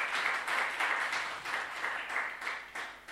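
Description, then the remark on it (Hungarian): An audience claps steadily for a guest being introduced, a dense wash of many hands with soft swells in intensity, moderately loud, with no voices over it. “aki a Debreceni Református Teológián tanul, negyedéves hallgató, de tapsém jár neki is.”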